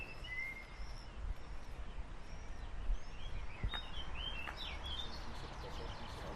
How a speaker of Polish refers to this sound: Pięknie śpiewają ptaki.